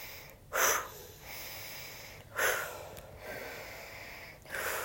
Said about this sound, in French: Pour sortir de la pratique, vous allez tonifier votre respiration. Vous inspirez, vous soufflez, comme quand on veut se réveiller. Voilà, qu'on a du mal le matin ou au sortir de la sieste. Tonifiez votre respiration.